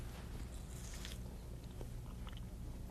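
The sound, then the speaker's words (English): Someone bites into and chews pieces of seedless watermelon, with a few crisp, wet crunches standing out over a steady low hum and soft smacking in between. “Want to taste a piece of that? It doesn't have any seeds in.”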